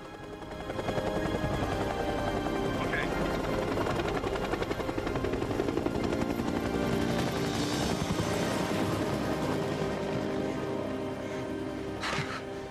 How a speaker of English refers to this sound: A helicopter appears overhead. Larry Moss leans out of the cabin.